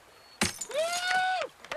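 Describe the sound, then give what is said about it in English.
A glass bottle smashes with one sharp, loud crash as a canoe is christened, followed by a sustained high vocal cry lasting about a second, then a brief clatter. “Thanks for breaking glass where my kids play.”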